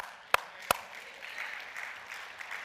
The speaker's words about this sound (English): Can you clap your hands?